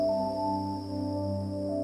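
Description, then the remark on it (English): A steady nighttime chorus of insects drones from the forest trees, a continuous layered buzz with a thin high whine on top, holding at an even level throughout with no voices. “Later, the sound of insects rules the trees.”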